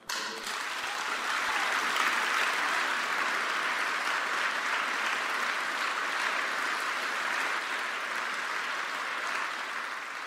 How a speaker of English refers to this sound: Please give a rounding applause to Ralph Nader, our hero.